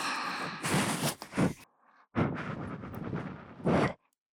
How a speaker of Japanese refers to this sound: 吐息をかけて仕上げに移っていくぞい